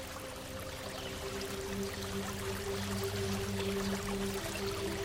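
A steady rush of a small, clear stream flowing under a small stone bridge and around some stones, a continuous babbling flow with a faint low hum beneath it, no voices present.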